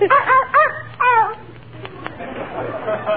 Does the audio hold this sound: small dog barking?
yes